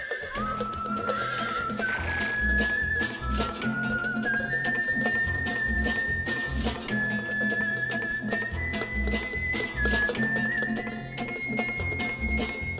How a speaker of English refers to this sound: As their horses galloped along, Roy Ranger spoke.